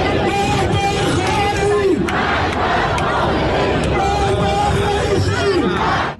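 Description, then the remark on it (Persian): A large crowd of Iranians protesting in Trafalgar Square, London, after the death of Mahsa Amini in custody, chants slogans in loud unison, voices rising and falling in repeated rhythmic phrases over a constant roar of cheering and shouting that never lets up. “در لندن ایرانی ها در میدان ترافالگار جمع شدند. این برخی از شعارها.”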